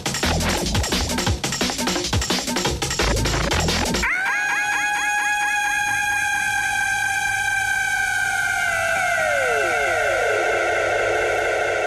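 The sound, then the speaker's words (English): Dense, pounding drum and bass beats cut off abruptly into a long, piercing shriek at the end of the track: bright layered tones that hold, then slide slowly downward in pitch over several seconds, with no voices. “a great shriek at the end of this, so I'll let it play through.”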